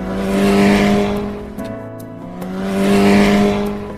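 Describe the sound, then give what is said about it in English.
A motorcycle engine revs loudly twice, its droning tone swelling up, easing off, then climbing again in a second surge, with no voices. “Let's ride the motorcycle.”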